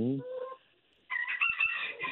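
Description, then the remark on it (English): A rooster crows in harsh, strained bursts: a descending opening call, a brief pause, then a louder, raspy, agitated crow with clucking edges, ending abruptly. “Yeah, they oh, sound he's, aggressive. He's ticked, yeah.”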